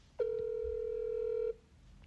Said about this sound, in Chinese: 那我给他打个电话。